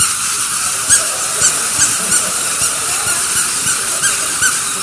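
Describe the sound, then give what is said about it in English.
Many squeaky toys being squeezed at once on cue by everyone in an audience, their high shrill squeals overlapping in a noisy, uneven stream, with sharper squeaks popping out roughly twice a second. “On cue, you squeeze it.”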